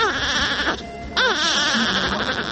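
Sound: newborn babies crying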